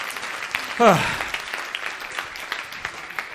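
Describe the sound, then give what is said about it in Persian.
Audience applause for a participant's reported sales results, a dense patter of many hands clapping steadily for a few seconds, with a brief voiced call rising over it near the start. “مرسی، تشویقش کنیم.”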